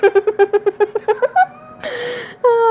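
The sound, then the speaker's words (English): A strange cat in a yard chatters in a quick run of about ten short chirps, then drags out into a rising, raspy meow that ends in a rougher yowl, loud with no talking. “Okay, looks like we have another strange cat in our yard that watched us fuck.”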